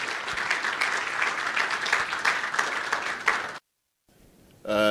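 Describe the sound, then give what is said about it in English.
A crowd applauds steadily as a speaker takes to the stage, with dense, continuous clapping for about three and a half seconds, then it cuts off abruptly to near silence before a brief louder tonal sound begins at the end. “Why don't you give him a big round of applause as he takes to the stage?”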